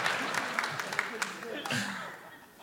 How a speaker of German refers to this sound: Länger klatschen. Länger klatschen, dann habe ich mehr Zeit nachzudenken.